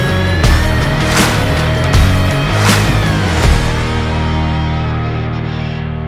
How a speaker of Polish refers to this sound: Ten autobus sprawia na mnie wrażenie takiego trochę wrośniętego, ale udało się uruchomić dach i w tym momencie właśnie zwija się dach elektryczny